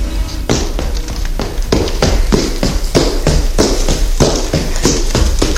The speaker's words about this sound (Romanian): Pe ulița domnească răsunară pașii grăbiți a unui băiet care abia și mai trăje sufletul de atâta alergătură.